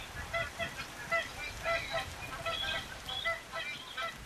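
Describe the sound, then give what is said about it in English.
A flock of magpie geese honks continuously in the wet season, many short nasal calls overlapping in a busy chorus over a low background rumble, with no voices present. “The north winds bring the storms, and this is when we look for ducks and magpie geese.”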